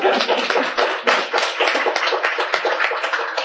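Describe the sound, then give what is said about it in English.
An audience at a law school symposium claps steadily for a few seconds, a dense crackle of many hands with no voices over it, holding an even, fairly loud level throughout. “Yes, it is a reason for applause, I think.”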